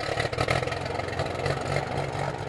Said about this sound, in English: This small twin-engine aircraft getting ready to take off from a sleepy airstrip in Lee's Summit, Missouri